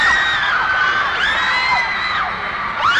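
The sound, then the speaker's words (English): A dense wall of high-pitched screaming and shouting from a huge concert crowd, sustained and loud throughout, with overlapping shrieks rising and falling as cheers swell. “Are you here to listen to music or just to have a lot of fun shouting?”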